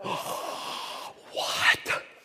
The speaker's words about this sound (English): Big gasping sound.